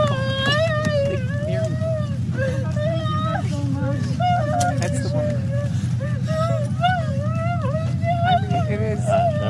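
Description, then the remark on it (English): A 60-pound dog, just pulled to safety with a rope around its midsection after falling into a snow bridge at Stewart Falls, whines and cries in long, wavering high-pitched wails that rise and fall almost continuously, over a steady low rumbling background. “And this is just, the dog is crying and the woman's crying.”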